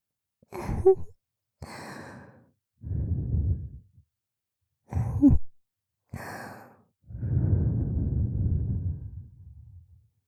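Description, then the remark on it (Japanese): Two slow cycles of a quick intake of breath followed by a soft breath blown out as a low, airy rush, the second exhale longer and gently fading; a cool breath blown in the role of a snow woman (yuki-onna) to cool the listener down. “それでは、ひんやりとした雪女の吐息でお客様の熱を冷ましていきますね。”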